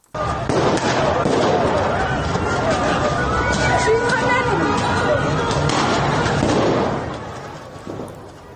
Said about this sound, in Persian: در یاسوج مرکز استان کوکیلو و بویر احمد همچنین اونجا ویدیوهایی هم منتشر شده از شلیک گلوله، پرتاب گاز اشکاور. میریم به یاسوج.